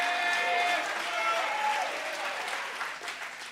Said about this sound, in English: Somebody shout hallelujah. I got to hear some shouting.